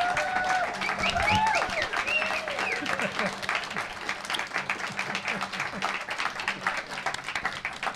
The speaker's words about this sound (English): as we go out, let's have a terrific round of applause for Fred Oldfield, 93 years old.